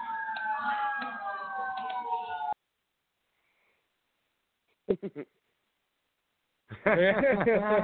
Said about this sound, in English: Uh-oh, you getting arrested? Uh-oh, get a little siren going.